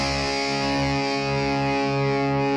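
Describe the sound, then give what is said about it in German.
A loud, distorted electric guitar riff with sustained, buzzing chords and a steady driving pulse underneath, the energetic intro of a bubblegum punk song. No voices. “Aber von dieser Art von Bubblegum Punk einfach ein schöner, finde ich.”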